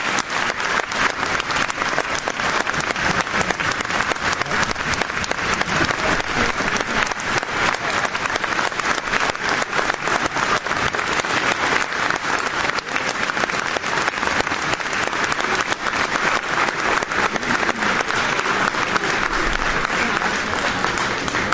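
Sustained audience applause for Vietnam veterans at a ceremony in a gymnasium, a dense, steady wash of many hands clapping at even loudness throughout, with no one speaking over it.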